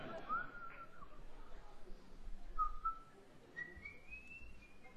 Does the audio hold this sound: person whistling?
yes